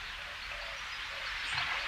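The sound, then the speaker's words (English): A steady, soft wash of running water, an even hiss with no distinct splashes, swelling slightly toward the end. No voices are heard. “For a time, there is only the sound of water.”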